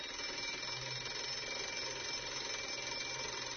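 An electric school bell rings continuously, a loud, steady metallic clatter that holds at an even level for several seconds with no pauses and no talking.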